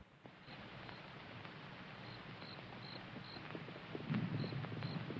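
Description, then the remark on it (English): A horse's hoofbeats clop in a steady, even rhythm against a noisy outdoor backdrop, growing slightly louder toward the end as Virgil's horse approaches the homestead. No one speaks. “The patriarch squints slightly, tuning into the sound of Virgil's horse's hoofbeats as he approaches the homestead.”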